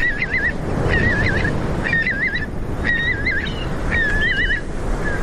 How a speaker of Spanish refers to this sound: Son aves que van hacia el norte ya, que van de vuelta hacia sus zonas de cría. Claro. Los chorlitos.